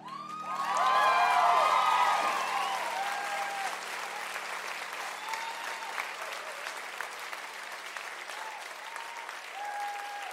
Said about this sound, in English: Cool. Please stop clapping.